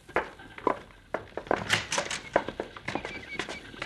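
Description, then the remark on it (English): Horses' hooves clip-clop in a steady, uneven patter of sharp knocks, several hoofbeats overlapping as more than one horse is moving, one of them a stallion ridden by the Cisco Kid, growing slightly louder with no voices. “By thunder, that big hombre on the stallion's a Cisco kid.”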